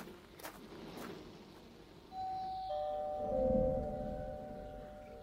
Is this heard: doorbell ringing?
yes